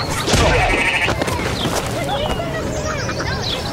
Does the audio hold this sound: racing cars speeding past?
no